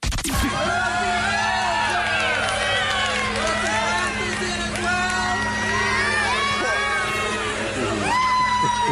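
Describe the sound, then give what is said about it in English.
A large crowd at a live event, recorded from inside the crowd, cheers loudly and without a break, with many overlapping voices shouting and whooping in rising and falling tones over a steady low rumble. “This is from inside the crowd.”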